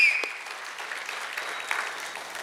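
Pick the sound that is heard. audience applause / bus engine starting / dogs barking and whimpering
audience applause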